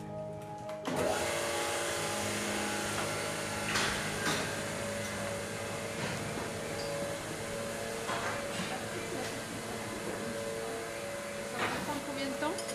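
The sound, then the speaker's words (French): A milking machine in a dairy barn starts up about a second in, at milking time for the cows, and runs steadily: a loud mechanical drone with a constant hum, pulsing undertones and occasional clanks, with faint voices underneath. “Je vais démarrer la machine, ça va faire un peu de bruit.”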